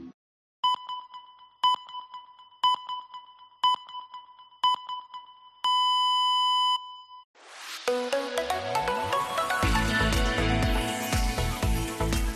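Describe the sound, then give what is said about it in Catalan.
Hourly radio time signal pips on COPE Catalunya i Andorra, marking 2 p.m.: five short, evenly spaced beeps a second apart, then a longer final tone, after which loud music starts up. “Senyals horàries de 2:15 to 2 del migdia.”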